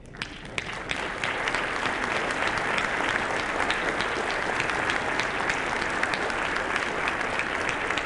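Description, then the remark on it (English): A large audience breaks into steady, sustained applause for the members of a strategic plan committee, a dense wash of many hands clapping at an even level for several seconds with no voices standing out. “please join me in standing, and please join me in welcoming applause for these individuals who helped us with this strategic plan rendition.”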